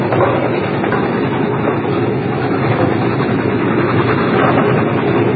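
A train running on rails, a loud, steady rumble of wheels and carriage noise that fills the whole stretch without letting up, with no voices.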